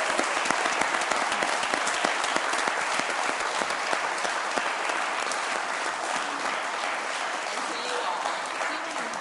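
A crowd applauds steadily for about nine seconds, a dense wash of many hands clapping at once that holds its loudness throughout and fades only slightly toward the end.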